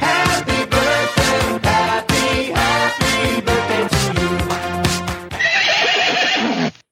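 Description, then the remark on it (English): A person imitates the whinny of a frightened pony in trouble, loud, with rapid shaky pulses through most of its length before rising into a higher, strained squeal that cuts off abruptly. “Wow, that is a really scary Winnie.”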